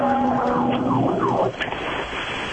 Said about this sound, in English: Okay, well, that sounded like that was Venice. That had all the sounds of Venice. I know. Bless whoever's in that fire engine.